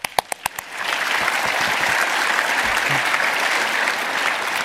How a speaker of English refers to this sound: Are there Blender people in here? They need a round of applause.